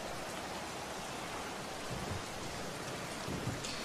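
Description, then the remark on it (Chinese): Steady, dense rain pours down with a constant hiss during a thunderstorm outside the front door of a home, and faint low rumbles of thunder roll in briefly near the middle and end. “要不然也不会这个雷雨夹夹的天气还在家门口站着，伞都不带。”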